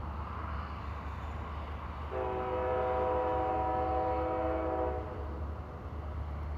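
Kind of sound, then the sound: vehicle, train passing by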